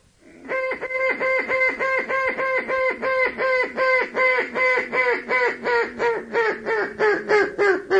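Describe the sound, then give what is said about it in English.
A long, loud run of rapid, evenly spaced quacks from a duck call blown as a highball call to draw ducks in, about twenty-five sharp honking notes in a steady rhythm with no talking. “then you want to give him what is known as a highball call”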